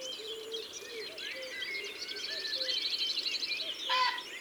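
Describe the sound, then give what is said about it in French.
A distant pheasant gives a brief, harsh, raspy call near the end, over a steady chorus of high chirping and twittering songbirds. “Ça, c'est un faisan au loin.”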